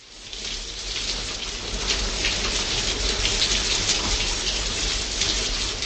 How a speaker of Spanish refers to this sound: Después de dos días de intensas lluvias, varias regiones del país se convirtieron en un infierno.